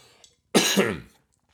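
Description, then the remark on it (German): A single harsh, throaty cough bursts out after a brief quiet moment, right after taking a drink, loud and raspy, then fades into silence. Nobody speaks. “Entschuldige mal, ich muss mal trinken und husten.”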